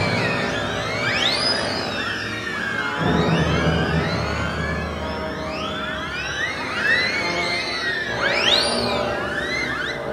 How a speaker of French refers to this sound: La matière quasiment électronique de la sirène, qui est tout simplement mécanique, permet d'imaginer des collages électroacoustiques les plus bruités possibles.